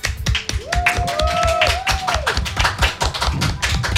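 Steady audience applause on a show set as a guest from the audience comes up to join, dense irregular clapping that stays loud throughout, with a faint whistle-like tone rising and holding briefly in the middle.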